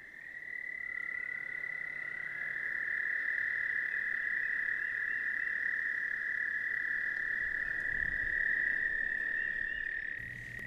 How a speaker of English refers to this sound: if the spring announcement by toads is not enough optimism for you